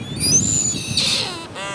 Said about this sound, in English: Native Hawaiians name the Newell Shearwater for the sound of its call, a'o.